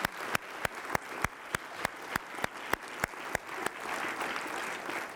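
A church audience applauds to thank the adults involved in the Sunday school program, beginning as steady, rhythmic clapping in unison, sharp beats at an even pace, then loosening into a continuous wash of scattered clapping. No one speaks.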